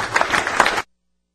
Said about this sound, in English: I think these gentlemen deserve a round of applause.